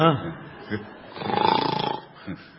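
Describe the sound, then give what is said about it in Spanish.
A voice does a loud, drawn-out snoring imitation, a rattling, pulsing snore lasting about a second, with brief talking just before and after. “Empieza a roncar.”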